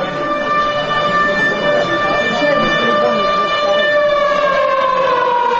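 A loud, steady alarm siren, switched on by officials in the adjacent room of the Holiday Inn Moskovskiye Vorota hotel during a meeting, wails continuously with strong harmonic tones that slowly drift in pitch, sounding slightly muffled, as if through a wall.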